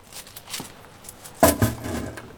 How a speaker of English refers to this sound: You've dropped some coins, your lordship. 600 francs, if I'm not mistaken.